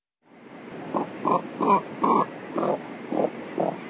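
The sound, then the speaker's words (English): A cormorant, whose syrinx is controlled by only one set of muscles, gives a series of seven low, hoarse grunting calls at a steady, slightly uneven pace, each a short rough croak with no other voices present. “Let's listen again to the limited vocal range of the cormorant, whose syrinx is controlled by only one set of muscles.”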